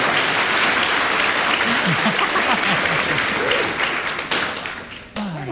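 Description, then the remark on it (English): Loud, sustained audience applause for Kenneth Williams, a dense wash of many hands clapping with scattered voices and cheers mixed in, holding steady before tapering off toward the end. “Kenneth Williams, a well-deserved round of applause.”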